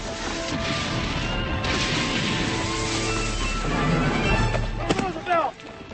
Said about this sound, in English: Here's a great explosion as he rides in.